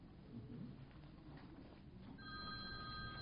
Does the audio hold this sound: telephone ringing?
yes